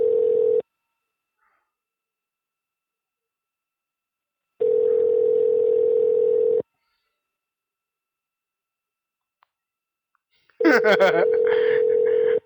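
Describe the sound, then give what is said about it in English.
A telephone rings with an incoming call, a steady electronic tone in long bursts of about two seconds, separated by silent gaps. Warbling, chirpy sounds layer over the final ring. “I don't want to pick up the phone!”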